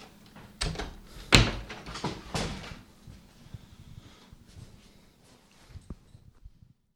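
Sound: door opening and closing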